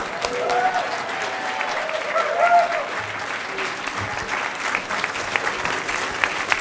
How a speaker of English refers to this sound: Do not applaud for me. Applaud for yourself and your potential.